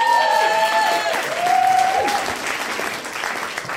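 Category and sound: crowd, audience applause and cheering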